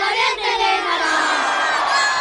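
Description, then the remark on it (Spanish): A crowd roars and shouts in celebration of a penalty goal in a second-division football match, a dense, loud wall of cheering voices that stays sustained throughout, sounding like a stadium erupting after a goal. “Están gritando el gol del penalti.”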